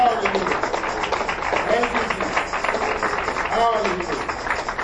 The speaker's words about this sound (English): Now, I want you to stand to your feet here this morning and give the Lord a hand clap. Hallelujah. Come on, somebody. If you believe the Lord has done it, give the Lord a hand clap here this morning.